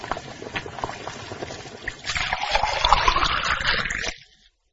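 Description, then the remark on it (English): Boiling water is poured steadily onto instant noodles, a continuous trickling splash that grows louder and rises in pitch as it fills, then stops abruptly. “When the water is boiling, add the water to the noodles.”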